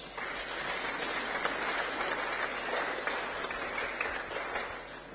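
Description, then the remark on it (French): An audience applauds steadily with scattered cheers, congratulating Goma Ouest for sharing bread during the lockdown. A dense wash of clapping holds at even loudness for several seconds before easing slightly at the end. “Et nous disons bravo. Félicitons-nous par des acclamations.”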